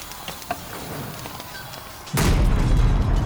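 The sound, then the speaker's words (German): A pipe on the back of a war machine bursts with a sudden loud blast, then a heavy, roaring rumble from the wreck carries on as hot steam shoots out, following a few seconds of quieter mechanical background with faint ticks. “Plötzlich explodierte ein Rohr auf dem Rücken der Kriegsmaschine und das Wrack begann zu rumpeln.”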